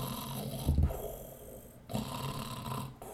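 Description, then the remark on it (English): A voice imitates the deep, rumbling snoring of a troll: two long, growly breaths, the first with a louder rough burst, then a brief pause before the second snore. No words are spoken. “Well, if I told you that later on … had several hours worth of troll snoring recorded, wouldn't you be excited?”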